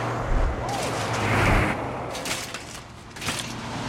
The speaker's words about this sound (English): Military trucks speed past.